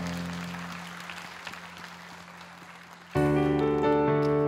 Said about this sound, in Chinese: 一起来拍手赞美他，哈利路亚。